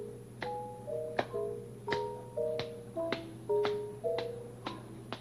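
About ten sharp, fairly soft claps, made with the hands behind the back as an exercise, land at a steady, unhurried pace, each a quick dry smack, with gentle tonal music playing quietly underneath.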